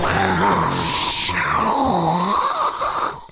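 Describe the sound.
A voice imitates a rocket engine with a loud, throaty, rumbling roar and a hissing burst partway through. It holds steady for about three seconds, then cuts off.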